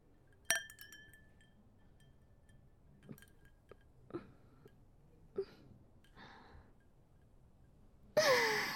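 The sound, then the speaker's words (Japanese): A single bright clink of glasses touching in a toast with tequila, with a brief ringing tone, followed by soft breaths, a sigh and a few small taps, then a louder burst of noise near the end. “乾杯。”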